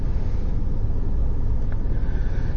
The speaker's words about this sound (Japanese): コンビニエンスストアの駐車場で喋っています。いつものように。